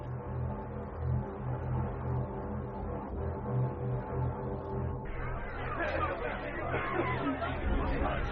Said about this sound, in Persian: هم همه در میان حاضران در گرفت، برخی مخالف و برخی هم صدا با ابو طالب